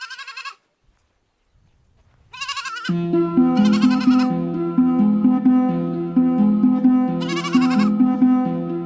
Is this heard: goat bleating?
yes